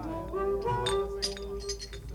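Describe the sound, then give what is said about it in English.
A drinking glass holding a drink clinks and rings, its bright tone sustaining and shimmering, with a few lighter taps of glass touching glass, against a faint murmur of room noise. “my glass over there, man. That's my drink, man.”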